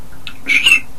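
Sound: cricket chirping sound effect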